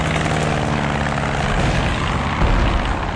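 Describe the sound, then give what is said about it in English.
A black propeller plane with swept-back wings, flown by the flyer Lensch, drones loudly and steadily, its engine hum and buzzing harmonics filling the air without any voices, holding constant with only a slight swell near the end. “Black plane, wings swept back.”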